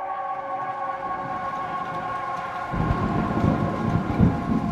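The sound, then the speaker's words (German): Rain drums steadily on the roof of a park ranger station near the Tham Luang cave at 8:30 in the morning on 6 July, growing heavier and denser partway through, over a constant low droning hum; no one speaks. “Juli und der Regen ist zurück. Er trommelt auf das Dach der Park Ranger Station in der Nähe der Kunamnang-Nong-Höhle des Tam Luang.”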